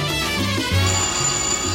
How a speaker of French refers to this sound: Je crois qu'il y a quelques petits messages sur notre répondeur, on les écoute ? Ah, le téléphone !